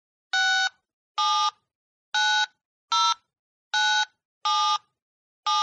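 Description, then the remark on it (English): A cell phone rings with a steady series of seven short electronic tone bursts, evenly spaced and loud, with no voices. “Olivia, who are you calling now? We're having a conversation. Answer your phone.”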